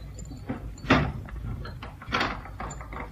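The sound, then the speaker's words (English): A door is pushed shut with a solid clunk, followed a second later by another mechanical clack as it is locked from the inside. Both sounds are moderately loud, with no talking. “Lock the door again, will you”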